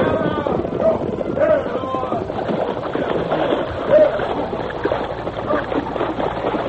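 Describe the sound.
Cavalry troopers' horses splash across a river in a steady, churning rush of water and hooves, loud, with indistinct voices shouting underneath throughout.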